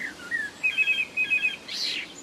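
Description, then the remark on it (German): A blackbird sings a short phrase of clear, high whistled notes, several quick, evenly spaced pulses followed by a brief rougher trill, heard alone and moderately quiet. “Oder Amseln und Singdrosseln machen Handys nach, sodass man also plötzlich im Garten sein Handy hört und rausrennt und dann war es doch nur die Amsel.”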